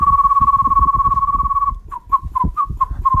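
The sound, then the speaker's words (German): A radio station's music editor whistles an odd, bird-like tune: a long steady trilling note, then a run of six short chirping notes that flick upward, over a low fluttering rumble. “Falls ihr also das Gefühl habt, ihr könnt extrem speziell pfeifen, wie zum Beispiel unser Musikredakteur.”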